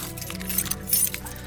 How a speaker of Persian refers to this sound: اینم سویش ماشین.